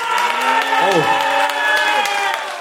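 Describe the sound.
An audience in Kreuzberg applauds steadily and loudly throughout, voting for a contestant on an applause meter, dense clapping mixed with whoops and cheering voices rising and falling over it.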